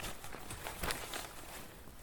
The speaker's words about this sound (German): Aber Leute, jetzt hören die nur, wie wir die Stühle auf- und abgebaut. Ja, dann ist das halt so.